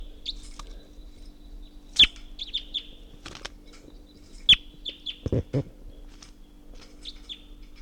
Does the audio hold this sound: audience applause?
no